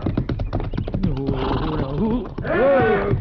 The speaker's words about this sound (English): Well, that horse is stomping him.